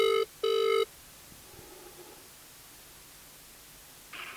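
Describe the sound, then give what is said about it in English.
Two short electronic ringback tones of an outgoing phone call, a quick burst then a longer one, over a faint hissy line, followed by quiet static and a brief tone at the end. “I'm just calling people on my phone, and I'd hope to get you and tell you about it.”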